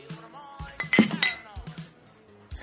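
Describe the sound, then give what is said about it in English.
Cups and glasses, including a plastic cup, clink together in a quick cluster of bright, ringing taps, with a louder burst of chiming strikes in the middle, then scattered softer knocks and a low thud. “Schmongish board of cups and glasses.”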